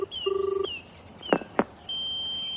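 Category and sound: signal or alarm, telephone number being dialed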